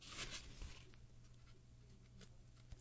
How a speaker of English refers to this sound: Let's see what happens on the next page. These pages are a little hard to turn today.